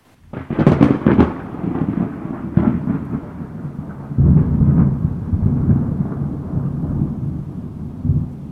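Thunder cracks sharply near the start, then rolls into a long, deep rumble that swells again midway and lingers to the end, with a faint hiss of rain beneath.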